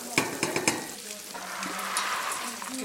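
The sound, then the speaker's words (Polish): Onions and garlic frying in duck fat for a duck sauce give off a steady, hissing sizzle, opening with a few quick scraping clatters of stirring before the crackle settles into a continuous bubbling hiss. “Do cebuli, tak? Pięknie nam się sypnęło, tak, do cebuli, było trochę cebuli, trochę czosnku, trochę oleju albo właśnie ten tłuszczyk z kaczki, bo to jest sos do kaczki, więc smak jak najbardziej będzie nam się tutaj uzupełniał.”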